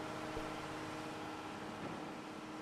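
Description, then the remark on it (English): A truck engine idles steadily outdoors as trucks pull in, a continuous low droning rumble with a faint tonal hum, fairly quiet and unchanging throughout, with no voices present. “vibrations from the trucks is even hurting.”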